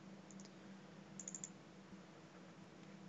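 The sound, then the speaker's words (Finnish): Faint mouse clicks of a double-click in the Eclipse editor: a quick pair early on, then a short rapid cluster of clicks a moment later, over a steady low electrical hum with no talking. “Vähän jää pimentoa, mitä tapahtuu ja rekisteröikö se edes tuota tuplaklikkaa.”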